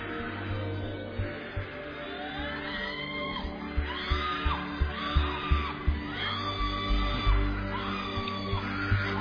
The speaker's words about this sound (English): One of you in front here will start shouting loud under the anointing. I don't know why, but God just gave me that word. In front, just in front here.